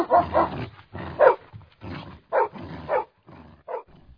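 Dogs barking as they come after a fox, in a quick, irregular string of sharp barks, about eight in four seconds, fairly loud, with no talking.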